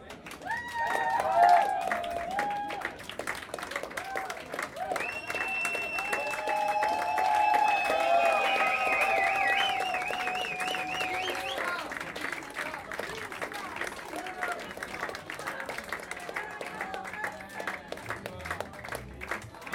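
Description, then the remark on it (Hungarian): A concert audience applauds steadily for about twenty seconds after a performance by a band, dense clapping mixed with shrill whistles and cheering voices early on, then settling into continuous even applause. “Tapsoljatok, és akkor meghalljunk.”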